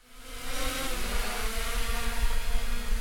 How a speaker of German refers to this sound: Das Geräusch stammt von seinem Hexakopter.